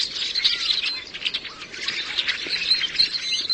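Rusty blackbird song: a steady run of squeaky, high chirps and creaky notes, moderately loud, continuing without pause and with no talking.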